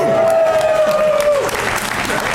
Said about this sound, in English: I like the applause. It gets me up like Tinkerbell.